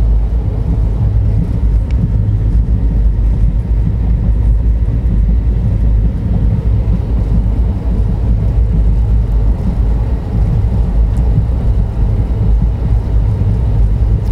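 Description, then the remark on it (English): Steady, loud low-frequency rumble fills the whole stretch: a train in India rolls along its tracks toward Coimbatore, Tamil Nadu, at about 4 a.m., heard from inside a carriage. There are no voices and a constant droning texture throughout. “So yeah, I have about, it's 4 o'clock in the morning, and I have about 40 more minutes before this train arrives Coimbatore in Tamil Nadu, and that's the last major leg of this journey.”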